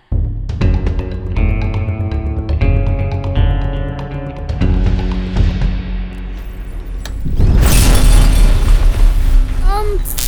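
A loud barrage of booming sci-fi quantum cannon blasts pounds an energy shield, harmonic tones ringing over a rumbling low end, swelling into a dense, crackling roar near the end.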